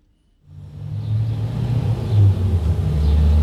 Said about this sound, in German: Nicht viele Autos fahren heute auf dieser Landstrasse, wo ich mit meinem Schild stehe. Manchmal winkt mir jemand aus einem Auto zu. Meistens fahren sie aber einfach an mir vorbei, bis die Strasse wieder verstummt